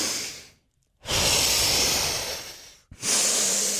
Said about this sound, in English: you know, the deep breathing thing? Yeah. So whenever everything seems like it's mounting up too fast and there's too many things and I'm, like, 100 different directions and I'm forgetting things, I do the